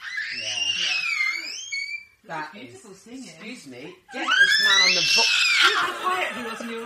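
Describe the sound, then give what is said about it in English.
A baby boy wails loudly in long, high-pitched, wavering cries, with a brief quieter stretch of fussing in the middle before the wailing swells again even louder. “some harmonious singing from Sarah's human son and dog son”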